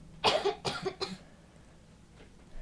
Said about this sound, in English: Thank you for those lovely coughs